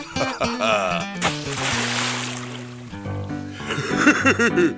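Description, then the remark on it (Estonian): A loud splash of someone falling into water while fishing bursts in after a second and churns for about two seconds, with sustained musical tones and voices around it. “Läksin vist hoogu ja kukkusin vette , enam õnge ei saanudki kätte , sai plehku kala ülisuur .”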